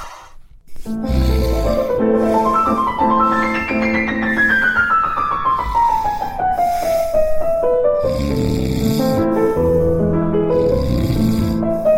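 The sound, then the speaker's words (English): Loud, cartoonish snoring from people, with a rumbling inhale, then a long whistling exhale that slides downward in pitch before another snore starts. Steady, with no talking. “My family fumbles in the dark, eats leftovers galore, takes bubble baths at 2 a.m., and many of them snore.”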